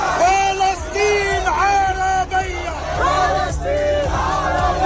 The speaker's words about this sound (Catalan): on s'han cridat, com ara sentíem, eslògans similars a les consignes de la revolució egípcia del 2011